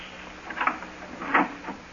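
A door is opened carefully and quietly to peek in on someone who may be asleep: two soft, brief rustling clicks about a second apart, faint, with no voices.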